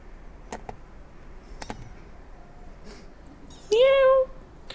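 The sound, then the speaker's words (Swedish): A small cat at a cat shelter in Tolkis, curious to get outside, scrapes at a window in a few brief, separated scratches, then lets out a short, loud meow, against a quiet background hiss. “Jag har en liten här som precis håller på. Krafsar på fönstret här.”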